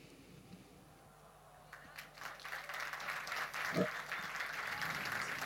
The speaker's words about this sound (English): Ein herzlichen Applaus. Thank you. A warm round of applause